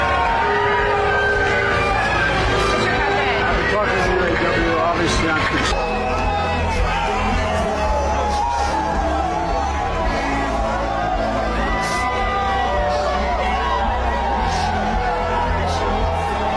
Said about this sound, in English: And yet they show us this guy named Biden. What type of reception does he get when he gets out of his vehicle? Now for my delusional liberal friends, here's what being booed sounds like.